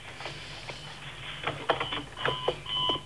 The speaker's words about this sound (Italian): Che c'è? La sveglia, proprio in questo momento, vai.